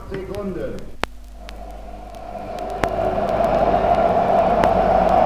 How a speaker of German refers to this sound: Dieses Geräusch sind 100.000 jubelnde Zuschauer im Motodrom. Anscheid fährt nach 15 Runden mit stillstehendem Motor als Sieger durchs Ziel.